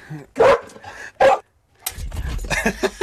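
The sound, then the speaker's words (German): A dog whines in two short, high-pitched bursts, followed by a stretch of scuffling, rustling noise as if the animal is moving around. “Und da kommt unser nächster Podcast-Mitbewohner hier an der Stelle und winselt hier um die Ecke.”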